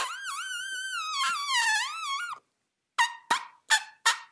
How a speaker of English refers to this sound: it appears, is made when an elephant presses air out between its tensed lips, which produces a noisy vibration. I couldn't find this technique to be described in any other animal except for human trumpet players. They call this technique lip buzzing.